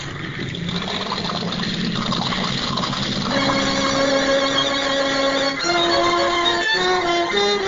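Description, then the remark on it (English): A boat engine started by its ignition cranks with a rough, noisy churn for a few seconds, then catches and settles into a steady, humming run that steps up in pitch, fairly loud, with no talking. “Handle the ignition like a car, Tick.”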